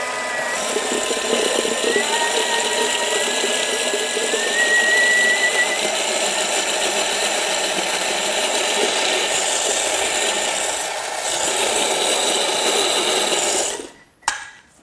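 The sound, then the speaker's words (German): A blender whirs steadily, blending hummus with two beetroots into a thick mixture with a loud, even motorized roar and shifting grinding tones. It runs for about fourteen seconds before cutting off abruptly. “In das restliche Humus im Mixer habe ich jetzt zunächst mal zwei rote Beete reingegeben und mixe Mach's mal.”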